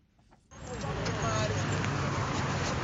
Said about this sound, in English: There is a little less traffic in Harare's business district, but otherwise it looks like business as usual.